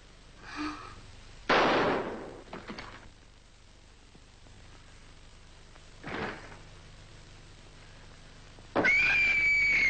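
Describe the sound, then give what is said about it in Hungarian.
A single sharp gunshot rings out near the start, loud with a brief echoing tail, followed later by a fainter pop and a loud, sustained sound at the end. “Egy lövés, én is.”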